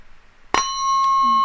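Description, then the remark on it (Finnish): A meditation bell is struck once, ringing out with a bright metallic tone and shimmering overtones that sustain and slowly hum on through the quiet afterward. “Kauniisti soi.”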